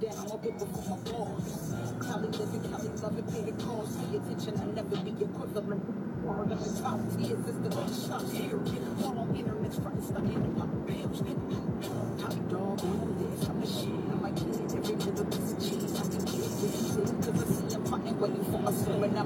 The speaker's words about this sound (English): I'm driving a car. I don't have time to fucking stand up.